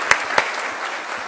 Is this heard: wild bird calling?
no